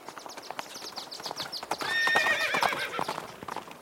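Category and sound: animal, horses clip-clopping and neighing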